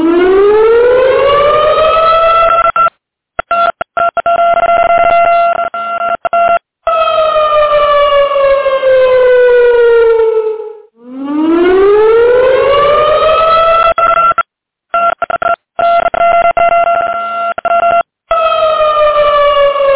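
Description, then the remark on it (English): A loud siren wails on its own, its pitch sweeping slowly up and down in long rising and falling cycles, cut by several brief dropouts. “This is a revolting development right now, but my siren's not working. Here we go.”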